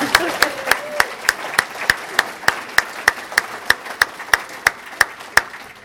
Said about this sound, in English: So, I guess none of them are here with us tonight, so we can still clap for them.